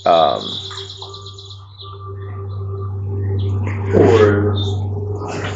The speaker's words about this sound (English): So ahead, in the general direction ahead of you, you notice that the forest sounds are slightly depressed. And so, like the getting quieter, less birds are chirping, less.